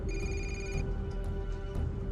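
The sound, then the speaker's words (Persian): A telephone rings once in a short electronic burst, then goes quiet, over a steady low hum and rumbling background noise. Nobody speaks. “باید اون تلفن جواب بدی.”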